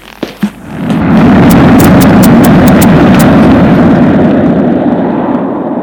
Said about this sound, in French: un vent terrible, une tornade l'entoure. Elle éjecte, le pousse. C'est un souffle immense. Qui soulève tout sur son passage.